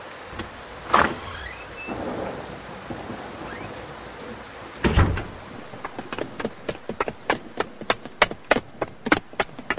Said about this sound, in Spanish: ya está calmando la lluvia.